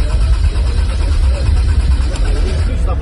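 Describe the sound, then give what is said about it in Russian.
A Vesta NG prototype car's engine cranks over and over without catching, a loud, steady low churning rumble that keeps going for about three seconds without ever settling into a running idle. “Ключ забрали, он же крутит, слышно, что крутится торцом.”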